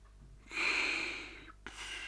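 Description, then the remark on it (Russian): A voice imitates a man's snoring as he sleeps on a couch in a living room: a long, raspy, breathy snore drawn out for about a second, then a short pause and the start of another, fairly loud with no speech. “Храпел он.”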